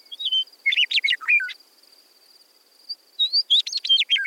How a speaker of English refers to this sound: Meadowlark is a talkative bird. You can often see them singing from the top of fence posts or trees.